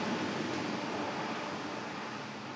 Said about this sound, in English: So most of the noise that you hear is air conditioning fans. There's a cool system where they blow cold air in down every other aisle, and they suck the warmed air up in the intermediate aisles.